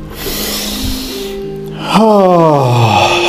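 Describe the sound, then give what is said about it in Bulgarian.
Deep heavy breathing during a guided breathing exercise: a long airy hiss of an inhale, then a fuller exhale that turns into a voiced, falling sigh. “Дишай.”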